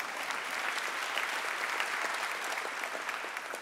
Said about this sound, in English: I felt like y'all wanted to clap. We should clap. Yeah.